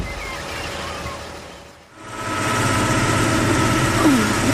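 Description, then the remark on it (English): A truck engine idles with a steady low rumble, briefly dipping quiet before settling into a constant, fairly loud drone with a faint rattle on top. No one speaks. “We're in some sort of vehicle.”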